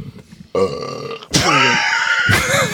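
A loud, drawn-out burp in two long rumbling bursts, the second rising into a raspy, gurgling roar, after a brief quieter lead-in. No talking.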